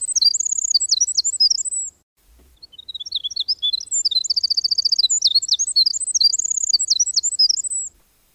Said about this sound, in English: I think my favorite of all the sounds of the North Woods is the long, silver-threaded song of the winter wren.